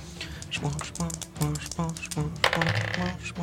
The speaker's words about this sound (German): Würfel Schaden aus, bitte. 2W6 plus 4 hast du, glaube ich, ne?